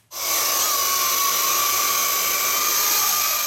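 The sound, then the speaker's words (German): A drone hovers in the air, buzzing steadily and loudly after a sudden start, its high whining motor tone holding constant without any talking. “Die Drohne schwebt stoisch in der Luft.”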